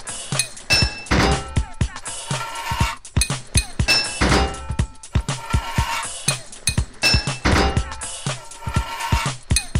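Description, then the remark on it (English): Loud hammer blows on a metal pipe, hitting to fit the pipe, land in quick irregular bursts, with sharp thunks and ringing metallic clinks repeating throughout. “2 hits of your hammer to fit a pipe.”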